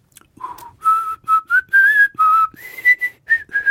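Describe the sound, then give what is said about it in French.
A person whistles a bright, trilling tune in short, birdlike phrases, imitating a canary's song. Clear and fairly loud, with brief pauses between notes and no talking. “Et cette canari incroyable, il siffle le Marseillaise.”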